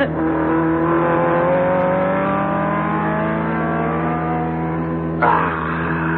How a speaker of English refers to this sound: Guido, you're slowing down. And I thought you never gave up. Well, you hear what's happened to my car? Oh, serious? No. She is due in the shop to be taken down on Monday. She needs an overhaul.